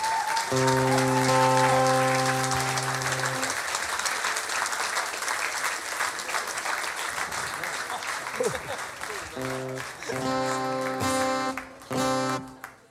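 Loud, dense applause from a concert audience as two singers are invited onto the stage to sing a hymn for late rock'n'roll vocalists and stars, a steady crackling wash of clapping throughout, with sustained tonal music notes sounding over it at the start and in short bursts near the end.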